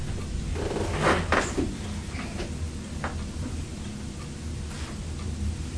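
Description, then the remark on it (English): A door bumps shut with a couple of sharp clunks near the start, followed by a few quieter knocks and rattles against a steady low indoor hum. “Sounds like a door closing.”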